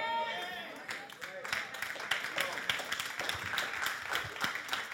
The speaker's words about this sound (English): Thank you for that 4 or 5 applause, and the rest of us are like, that's...